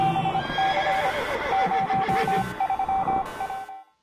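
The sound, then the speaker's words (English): A horse neighs loudly for several seconds, layered with a steady pulsing beep-like tone and some hoof clatter, then cuts off abruptly. No one speaks. “Yeah, the horses was a nice addition.”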